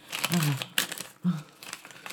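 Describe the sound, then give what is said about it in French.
Crisp rustling and crinkling of paper as a letter from Monsieur Maurice is unfolded, in a few quick bursts, with brief murmured vocal sounds mixed in. “Madame, il y a une lettre de Monsieur Maurice.”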